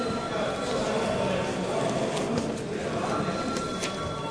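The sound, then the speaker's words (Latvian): A steady electric bell rings without pause for several seconds in a parliament chamber, calling deputies to vote on a proposal, a rapid metallic clatter with a bright, even tone holding at a constant loudness over a faint background murmur. “Lūdzu zvanu.”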